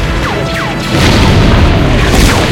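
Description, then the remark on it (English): Loud, heavy battlefield explosions boom and rumble continuously all around troops in a snow trench on a frozen battlefield, with descending whistles like incoming shells cutting through before the blasts grow louder partway through. “Now, in the snow trench, troops aim their weapons at the horizon as explosions begin to erupt all around them.”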